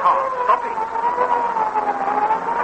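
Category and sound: vehicle, ambulance siren approaching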